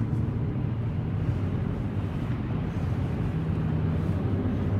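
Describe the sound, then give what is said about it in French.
Steady low rumble of a car interior while driving in city traffic in Moscow, a constant engine and road drone with a faint wash of higher noise, no voices, even and unbroken throughout. “nous sommes avec vous dans votre voiture.”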